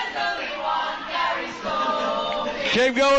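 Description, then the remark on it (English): A crowd of Huddersfield football fans chants a name together in a loud, sustained, sing-song rhythm, with many voices blending into steady tones that rise sharply near the end. “This is the Huddersfield fans. They're shouting my name here now.”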